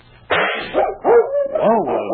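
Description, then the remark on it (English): A dog named King lets out a quick run of sharp, yelping barks, fairly loud, three or four rising-and-falling cries in about two seconds, startled by a firecracker set off to celebrate New Year's; no clear bang is heard before them. “Well, I've never seen a dog yet that wasn't afraid of firecrackers.”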